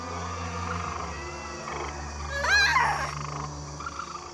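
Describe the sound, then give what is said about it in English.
A dense chorus of many frogs, made by Pharaoh's magicians in Egypt, croaking together, steady and layered throughout, with a louder burst of sharp, rising calls swelling up briefly near the middle before settling back. “Pharaoh, see? We magicians can make frogs too.”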